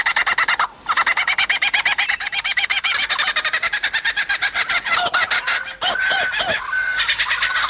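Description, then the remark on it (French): A lyrebird, which copies the songs of some twenty bird species, mimics other birds loudly: a rapid run of chattering, clucking trills gives way to swooping whistled notes and a sustained tone near the end, with no pauses or voices. “Il copie, entre autres, le chant d'une vingtaine d'espèces d'oiseaux.”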